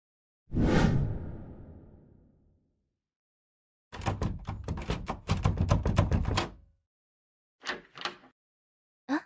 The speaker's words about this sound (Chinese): 钥匙打不开门。估计是锁孔坏了吧。